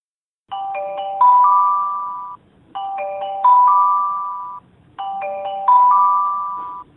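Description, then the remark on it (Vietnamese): A loud, piercing emergency alert tone from a mobile phone, sounding when a disaster warning is sent to the phone. It plays three times in a row, each burst a rising multi-note chime chord that swells and then fades, with no voices. “Đây là âm thanh khi tin cảnh báo gửi về điện thoại khi có thiên tai.”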